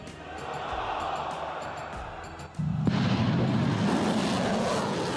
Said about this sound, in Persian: شاهد شلیک موشک بالستیک به قلب رژیم صهیونیستی بودیم که قلب هزاران مسلمان مظلوم رو در عالم خوشحال کرد.